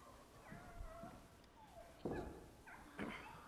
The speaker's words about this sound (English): And my kitty's still crying down here.